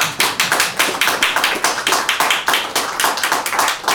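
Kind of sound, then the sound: crowd, audience clapping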